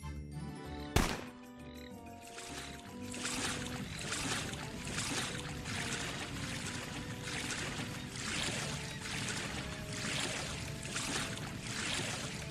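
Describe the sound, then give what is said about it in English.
A boat is paddled at an even pace in a video game: a paddle dips and splashes through water in a steady rhythm, roughly one stroke per second, fairly loud, following a sharp thunk and a brief tonal hum at the start. “We're just paddling this boat here.”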